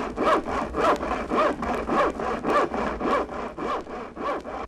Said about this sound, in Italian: Il rumore bonario della sega.